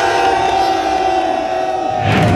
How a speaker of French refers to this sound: et là on est 300 à crier un petit peu notre colère